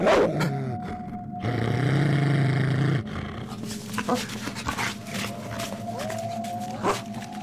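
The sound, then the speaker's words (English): A solitary hound with a gleaming white coat and deep crimson red ears, emerging from the brush, growls loud, a deep rumbling snarl that swells and holds for a couple of seconds before trailing off into rustling movement and quieter grumbles. “A solitary hound emerges from the brush and pauses for a moment, gazing straight into Pryderi's eyes”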